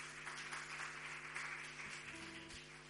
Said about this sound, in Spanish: Un aplauso para él.